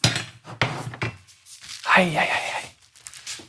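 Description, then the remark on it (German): A few metallic clunks and knocks of a frying pan being set down and moved away, followed by a brief voice in the background. “Ich pack die Pfanne weg.”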